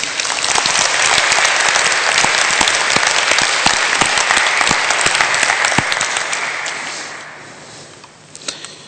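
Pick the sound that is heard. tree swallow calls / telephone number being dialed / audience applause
audience applause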